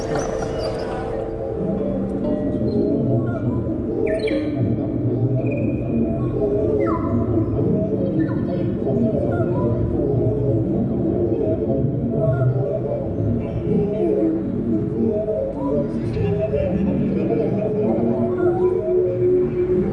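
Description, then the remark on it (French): Bird calls heavily warped through effect pedals, smeared into droning, layered tones with occasional whistling pitch slides, playing continuously and fairly loud throughout, with no talking. “Et j'ai aussi des pédales à effet. Donc après je trafique, j'expérimente avec pour déformer, triturer le son.”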